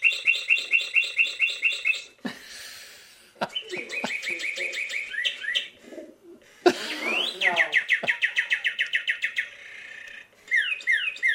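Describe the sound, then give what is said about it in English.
A female pet bird chirps loudly in rapid, rhythmic runs of bright, repeated notes, pausing briefly between bursts, alert and puffed up at a mechanical toy bird placed in her cardboard box on a kitchen counter. No one speaks. “Much of the time, the bird calmly roosts in a cardboard box on their kitchen counter, but right now she's all alert and puffed up.”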